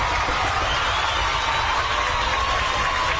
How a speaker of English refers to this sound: It's more of a crowd. That's kind of a crowd.